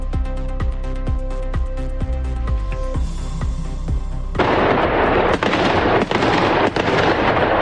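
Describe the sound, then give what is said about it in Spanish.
A fireworks display at night at the opening of the San Fernando fair in Cáceres, Spain: a quick, steady string of booming pops, then a loud, dense barrage of crackling explosions that continues without pause. “Arranca de forma oficial la Feria de San Fernando en Cáceres esta noche a partir de las 10:30 con el tradicional encendido de la portada del recinto ferial con más de 500.000 de puntos de luz LED y un castillo de fuegos artificiales.”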